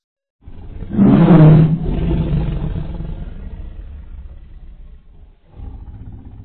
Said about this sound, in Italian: Udì il miagolio della tigre.